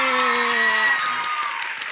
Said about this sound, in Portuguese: Bom, uma salva de palmas para Gabriel Leone!